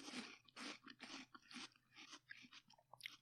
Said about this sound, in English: Do you think it's disgusting for people to hear us chewing? Will this stay in the episode or we're going to mute our chewing noises? Okay, I've got one more bite and then we'll be done with the chewing.